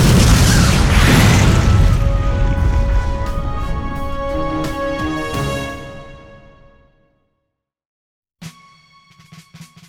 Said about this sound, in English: We have just received a video purported to be from the group responsible for the massive explosion in America's heartland today.